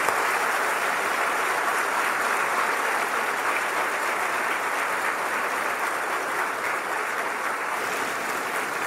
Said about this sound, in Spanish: Dele un aplauso. Amén.